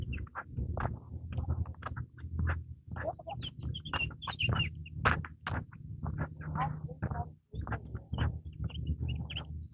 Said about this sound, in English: Somebody chirping up a storm up there.